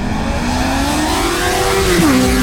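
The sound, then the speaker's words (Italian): A loud motorcycle engine revs with a steadily climbing pitch, then its tone drops sharply as the motorcycle speeds past while doing a wheelie, with no voices over it. “Sì, perché qua andiamo sulle due ruote per questo scherzo telefonico che arriva dal nostro archivio. C'è arrivato, peraltro, impennando.”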